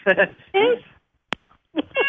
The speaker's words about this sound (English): I heard your cat chime in with hello first.